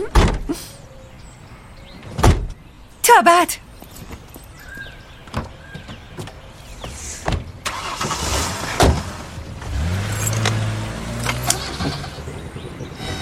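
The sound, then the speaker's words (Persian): A newly bought minivan's sliding door rolls and thunks shut with a few clunks, then the engine starts up and the minivan drives off with a steady rumble. A brief farewell is spoken. “ماشین خریدی؟ آره، مینیوان گرفتیم.”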